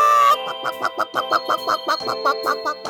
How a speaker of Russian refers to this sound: Настоящая курица на настоящем радио.